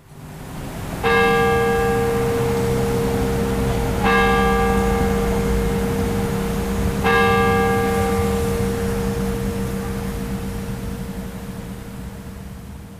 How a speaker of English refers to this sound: They've been getting back to their normal campus routines and hearing the sound of Denny chimes every 15 minutes along the way.